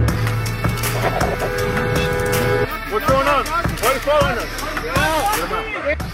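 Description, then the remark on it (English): A car horn blares in one long, steady blast for a couple of seconds amid street noise, as a person in their car honks behind an ICE vehicle, then agitated voices shout over the background traffic. “They're behind an ICE vehicle, and they're honking.”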